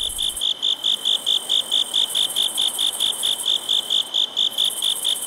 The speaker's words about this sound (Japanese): はい、 虫の音、はい、これ音の日記帳でも紹介しましたけど、コオロギの、鳴いてる音の回がありましたんで、ちょっと聞いてみましょう。